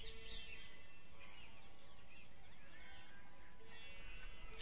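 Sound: birds chirping outdoors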